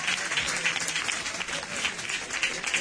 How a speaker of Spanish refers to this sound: Aplausos del público para el capitán de la escuadra del Rociana.